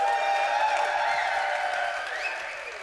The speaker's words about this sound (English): Can I get a huge round of applause for all of our speakers who just had to make very adult jokes for things they've never seen before in their lives? I want to hear it. Let's raise this roof.